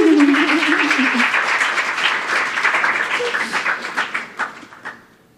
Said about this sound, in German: So, vielleicht ein kleiner Applaus für Daniels Heldentat.